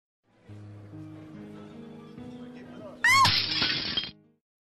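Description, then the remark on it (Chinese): A ceramic plate suddenly smashes after a few seconds of low, droning background, bursting into a loud crash with bright ringing chinks as shards scatter for about a second. “我是只兢兢业业了一辈子的盘子，所以我刚一摔碎就看见了天堂天使的召唤。”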